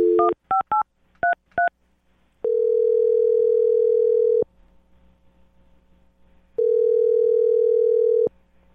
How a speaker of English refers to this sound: Okay, I'm going to dial this phone up right now and get him on the phone. Here we go.